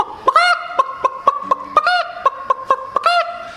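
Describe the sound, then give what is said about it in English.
A hen that has just laid an egg cackles loudly as she comes out of the chicken house: a steady run of short, sharp clucks broken by three longer, drawn-out squawks, with no voices in the background. “then out along through the chicken house there'd come a hen proud to have laid an egg, and she'll come out of that hen house.”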